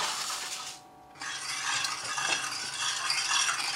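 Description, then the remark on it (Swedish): A spoon stirs steadily in a pot of water, dissolving sugar to make a sugar syrup, a continuous scraping, swishing sound with a brief pause near the start before the stirring resumes. No one speaks. “Ska jag koka upp vatten och lösa upp socker i den.”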